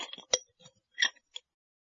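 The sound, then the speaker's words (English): A few light clinks and ticks as tea is put into a cup to make tea, with a sharper tap near the start and another bright clink after a short pause. “First, put some tea in a cup.”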